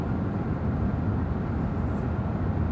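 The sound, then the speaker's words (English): Steady, low rumbling road noise inside a dark moving car on the way back to a garage about 7 minutes away, a constant deep drone with a hiss on top, holding at an even level throughout with no voices. “So this week, my notes are sitting beside me here in the car, but the car is dark.”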